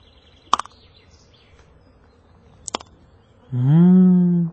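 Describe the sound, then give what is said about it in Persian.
Bees buzz in a nest inside the belly of a lion carcass lying on the ground. A couple of sharp clicks come first over a low hum, then a loud buzzing drone swells for about a second at the end. “عجیب، در شکمش زنبورها خونه کردم. این چی باشد؟”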